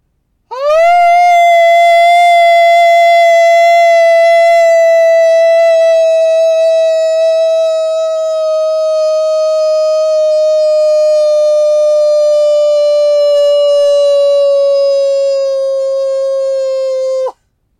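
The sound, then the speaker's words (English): A human voice imitates a wolf with one long, loud howl that swoops up at the start, then holds a steady pitch and slowly sinks for about sixteen seconds, with no talking. “Take a wolf breath and howl.”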